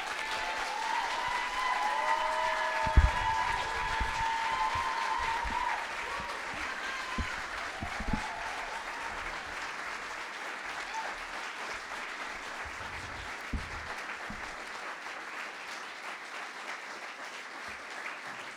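Sustained audience applause after a speaker's personal talk, a dense steady patter of many hands clapping for the whole stretch, with occasional louder individual claps and faint cheering mixed in.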